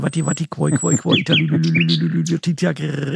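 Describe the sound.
Nightingale song with thin whistled notes and short bright phrases running behind a voice that talks steadily over it, the birdsong fairly faint.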